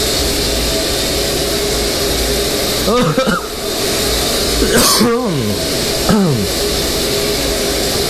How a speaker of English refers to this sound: You know, I hate doing laundry. I might as well do something else while I'm doing laundry. That's why I'm podcasting. I hope you can hear me with the water running in the background.